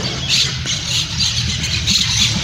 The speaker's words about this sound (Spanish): ¿Las aves en su canto lo apoyan o están en contra? No, están como locas. Están en el, son la oposición. Claramente son la oposición.